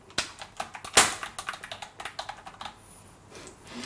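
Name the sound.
typing on a keyboard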